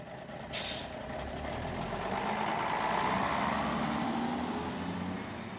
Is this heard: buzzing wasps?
no